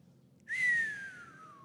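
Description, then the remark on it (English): A single sustained whistle, fairly loud, holding a steady high note that slowly slides downward as it fades over about a second. “I'll whistle for you.”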